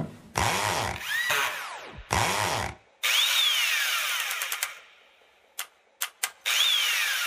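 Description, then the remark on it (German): Loud construction-site noise: a power drill whines in several long bursts, its motor revving up and down, then stops and starts in a few short jabs before one final sustained run. “Und das war die Baustelle.”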